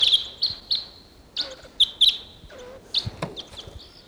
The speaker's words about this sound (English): Morning of October 14th, and there's a wild bird coming in.